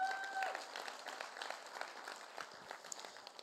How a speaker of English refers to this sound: Give the Father a round of applause.